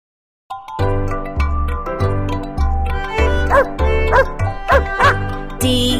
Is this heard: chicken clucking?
no